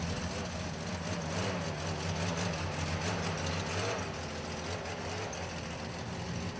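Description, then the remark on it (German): A heavy 1959 fire engine, donated to an association, idles steadily, its low rumbling throb holding an even loudness with no pauses or revving throughout. “Am liebsten mit diesem Feuerwehrauto, Baujahr 1959, das dem Verein gespendet wurde.”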